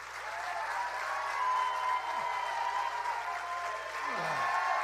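An audience claps steadily for several seconds as a clap offering to Jesus, a dense, continuous wash of applause, with faint sustained tones underneath and no one speaking.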